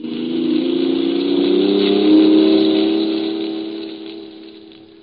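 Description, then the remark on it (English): A car engine drones steadily in town traffic, swelling louder toward the middle as if accelerating past, then easing off again, as a car on the right tries to cut into the line of traffic, with a constant hum of traffic underneath and no talking. “A car on my right tried to cut into my line of traffic, and I just didn't feel like letting him do it.”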